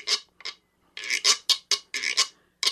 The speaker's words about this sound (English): This thing is a wiro, often heard in Latin music.